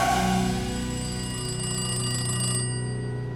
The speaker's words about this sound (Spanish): El teléfono del apartamento de Richard sonó con insistencia. Nueva York, lunes 27 de febrero de 2012.